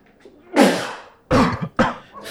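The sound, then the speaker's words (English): Three loud sneezes in quick succession, the first long and forceful, the next two shorter bursts close together, with no talking around them. “sneezing over here.”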